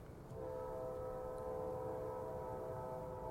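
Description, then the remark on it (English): A train passes on tracks in Memphis, its horn holding a steady, sustained chord over a low rolling rumble of wheels on the rails, loud and continuous for a few seconds. “Memphis train tracks, come on.”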